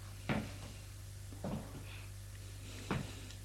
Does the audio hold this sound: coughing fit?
no